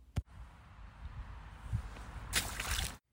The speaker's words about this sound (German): Genau richtig. Max und Emma springen in eine Pfütze. Das macht richtig viel Spaß.